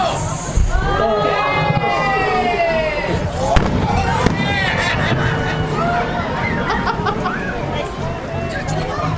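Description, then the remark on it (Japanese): A few sharp fireworks bangs crack out, set off after a ten-second countdown at the close of an outdoor event, over a loud, cheering crowd with excited voices and shouts rising throughout. “花火が上がり、湯田安保も終了。”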